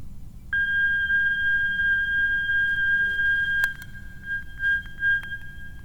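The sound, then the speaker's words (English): A steady, high-pitched electronic tone from a battery-powered flex-sensor synthesizer built on a breadboard switches on abruptly and holds a constant pitch with a faint upper harmonic, over low rumbling hum and a few sharp clicks. “Now I need some tone.”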